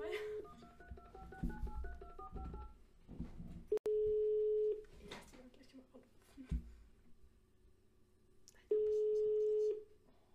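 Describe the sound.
A quick string of telephone keypad dialing tones as someone's phone number is dialed, then two long, steady phone tones about five seconds apart, with people talking quietly in the background throughout.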